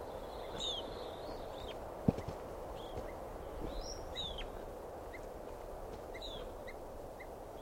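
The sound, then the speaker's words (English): Sharp, high bird alarm calls repeat in short bursts throughout, fairly faint over a steady outdoor hiss, with one brief thump partway through. “I think alarm calls now.”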